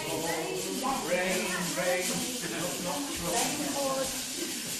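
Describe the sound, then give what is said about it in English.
Several voices in a group imitate pouring rain for a told story about a storm, with a steady, continuous hiss lasting the whole time, mixed with murmured vocal sounds. The hissing stays fairly even in loudness without pauses. “The lightning flashed, the rain poured.”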